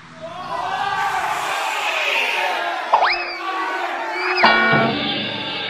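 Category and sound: crowd, crowd shouting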